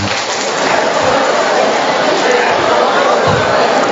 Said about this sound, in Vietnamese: Rồi cho một tràng pháo tay thưa anh chị em.